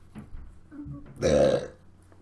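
A single loud, drawn-out burp rises out of near quiet, lasting about half a second with a rough, voiced gurgle before fading away.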